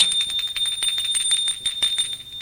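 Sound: doorbell ringing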